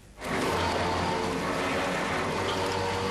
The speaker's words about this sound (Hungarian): Próbaüzemben a Széchenyi jégtörő. A hajó a jégtáblákat így gyűri maga alá és töri össze.